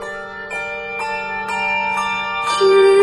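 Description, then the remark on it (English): A handbell choir rings a 3 to 5 octave arrangement with solo voice for the Lenten season, in sustained, overlapping chords. New strikes land at a steady pace about twice a second, and the shimmering tones build slightly louder toward the end. “Bells and voices blend well together in this setting of the original work”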